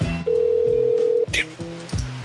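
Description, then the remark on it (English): A single steady ringback tone of a phone ringing on an outgoing call lasts about a second, clear and moderately loud, followed by brief muffled voice-like sounds. “Listen, it's taken a long time to get someone on the phone.”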